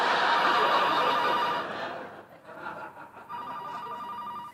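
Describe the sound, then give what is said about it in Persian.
A telephone rings with a steady electronic trill, loud, then cuts off, leaving a moment of quiet before a brief tonal chirp returns. “الو؟ او سلام، گوشی لحظه، الان صداش میکنم.”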